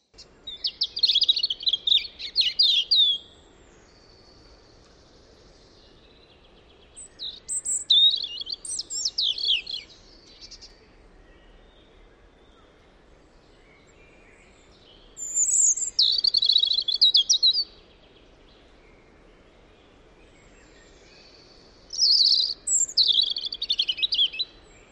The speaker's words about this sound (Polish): Posłuchajmy sobie śpiewu rudzika.